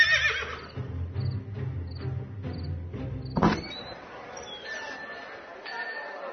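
Don Quixote's horse whinnies at an inn, a long, quavering neigh pulsing in rapid bursts for a few seconds, then a sharp snort before quieter background sounds settle in.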